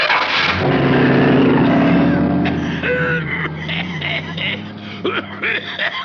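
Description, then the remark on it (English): The engine of a brand new imported Rockerari special car cranks and starts with a loud burst, then settles into a steady, low droning hum that wavers in pitch, with a voice briefly audible over it toward the end. “Oh, what a dream car. It's my brand new imported Rockerari special.”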